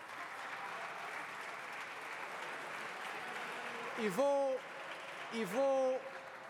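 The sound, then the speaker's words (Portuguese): Sustained applause from the PSD parliamentary bench during a State Budget debate, a dense, even wash of clapping throughout, with two brief hooting vocal calls rising above it near the end. “E vou aventar uma explicação para o seu deputado, sim, com um grande aplauso da bancada do PSD, com um enorme aplauso e motivação da bancada do PSD, e vou aventar uma razão para tal facto.”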